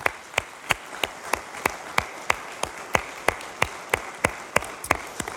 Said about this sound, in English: And can I just ask us to do something that feels a little weird? Can we just give a round of applause to everybody who's serving for all their generosity and all the ways that they're doing something?